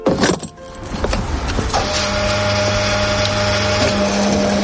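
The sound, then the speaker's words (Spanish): A fuel pump at a petrol station fills a car's tank: a few clunks and rattles of the nozzle at first, then a steady, droning motor whine that holds one pitch without talk. “Este sonido al que estamos acostumbrados muchos es un gesto que sale cada día más caro.”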